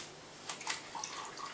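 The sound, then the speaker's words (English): A short splash of 4 tablespoons of water poured into a small container of soy sauce to mix a marinade, a quick gurgling trickle with a couple of brief splashy bursts, fairly quiet. “And 4 tablespoons of water”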